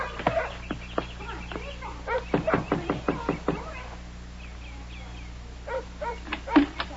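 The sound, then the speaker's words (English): Several bursts of sharp knocking on a door, a few raps at first, then a quicker run of about eight, and a last short cluster, with faint background sounds between. “You just knock and my mama will come.”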